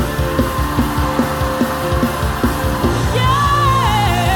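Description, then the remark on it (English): A crowd shouts and cries out together in praise in a loud, continuous wash of voices, carried over a steady rhythmic beat and sustained instrumental tones, with one high voice rising near the end. “Get this shouting!”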